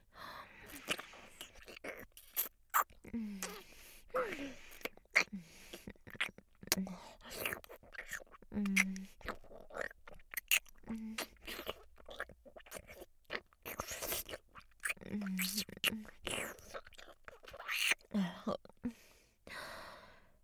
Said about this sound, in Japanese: 私の息遣い、唾液の音、いっぱい感じてください。